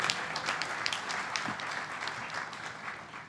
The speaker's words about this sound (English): I also did want to recognize again Dr. Ron Valdeseri. You've heard his name several times, but Ron, can you now just stand up and wave and get some applause here? Thank you.